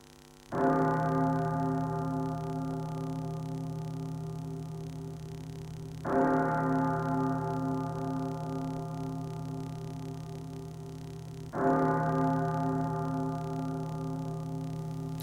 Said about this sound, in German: Der Klang von Kirchenglocken ruft das Publikum in das Innere der Hahlhalle, in der ein riesiges Holzkreuz das minimalistische Bühnenbild dominiert.